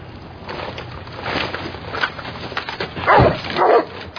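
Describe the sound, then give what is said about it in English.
A dog guarding a wagon barks repeatedly, with loud, sharp barks near the end and smaller yelps before, over a noisy background. “Dog, shoot him! Just shoot the damn thing!”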